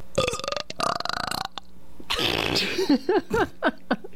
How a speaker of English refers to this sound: Wow. You know, you did 110 on the decibel there. I don't think... look, I'm not trying to break any records, but I can burp on cue. I am so proud right now.